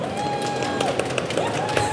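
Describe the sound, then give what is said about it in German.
A small live audience at a trade fair, on the second fair day, applauds steadily, many hands clapping in a dense, continuous patter that stays even in loudness for the whole two seconds, with no speech over it. “Darf ich, ist das unverständlich, wenn ich einmal einen kleinen Applaus höre?”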